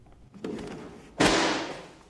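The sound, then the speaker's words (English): Inside an old church, a man knocks over a book as he turns, making two thuds: a muffled bump, then a louder, sharper slap that rings briefly before fading. No one speaks. “He knocks a book as he turns.”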